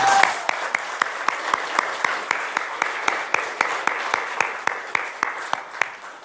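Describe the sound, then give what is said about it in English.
An audience applauds steadily for several seconds as a young man is invited up to speak, a dense wash of clapping with a regular pulse of sharper claps running through it at an even, brisk rhythm, holding a fairly constant loudness throughout. “Can we give Jaden a huge round of applause?”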